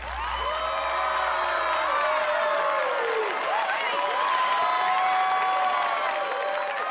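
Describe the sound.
A crowd claps and cheers steadily for several seconds, with whoops and excited voices rising over the dense applause, loud and close throughout.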